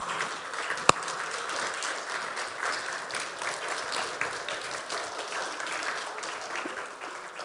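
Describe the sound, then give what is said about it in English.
Steady applause from a standing audience honouring dads, a dense, continuous rattle of many hands clapping at moderate loudness throughout, with one sharp louder clap near the start. “Everybody else, let's stand up and let's give our dads just a round of applause.”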